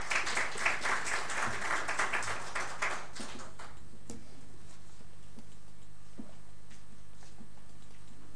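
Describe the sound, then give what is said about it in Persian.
A burst of audience applause welcoming an invited speaker to the stage, dense overlapping claps for about three seconds, then thinning to a few scattered claps and fading into quiet. “لطفا تشویقشون بفرمایید.”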